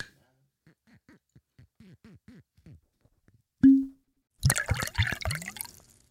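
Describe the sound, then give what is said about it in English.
A cork pulls free from a bottle of Eagle Rare bourbon with a single hollow pop, then the bourbon glugs and splashes loudly into a Glencairn glass for about two seconds. Faint murmured talk comes before the pop. “Eagle Rare. Let's open the bottle.”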